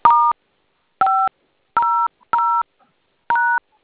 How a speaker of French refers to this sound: quand vous composez avec ce téléphone.